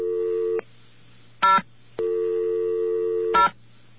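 Telephone line tones while calling a New York telephone operator through the BAI phone system: a steady, buzzy, low-pitched electronic tone sounds in two long stretches, with short, bright dialing bursts between and at the end of them. No one speaks.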